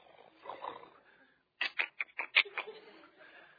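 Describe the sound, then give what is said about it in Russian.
A person imitates the lions in the den where Daniel was thrown, a quick run of five or six short, raspy roaring vocal bursts, loud, after a quieter stretch of murmuring voice. “И там львы такие.”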